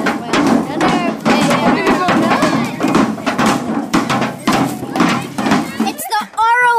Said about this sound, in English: on fait du tambour avec des boîtes de conserve